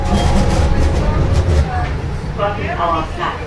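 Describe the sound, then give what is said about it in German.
A tram rumbles along with a steady, loud low drone. Indistinct voices murmur in the background, and a brief tonal sound rises near the end. “Genau, die Straßenbahn.”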